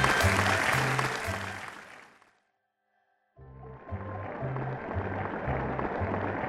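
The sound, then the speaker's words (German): Dense audience applause for Ling, an acrobat from China, and her human pyramid. It fills the air, fades out into a short silence, then bursts back in just as loud and keeps going, a steady wash of clapping with a faint repeating low pulse underneath. “Und nun Beifall für Ling, unsere Akrobatin aus China und ihre menschliche Pyramide.”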